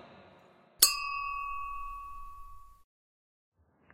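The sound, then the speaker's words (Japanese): A single bright glass clink rings out sharply as glasses are raised in a toast, its clear tone sustaining and fading over about two seconds before quiet returns. “キミモル雑談に乾杯。”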